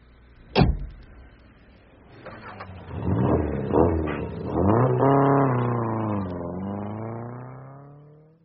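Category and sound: vehicle, car driving and accelerating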